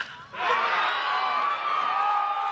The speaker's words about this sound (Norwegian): De hyler det noe innmari i hvert fall. Mye jenter.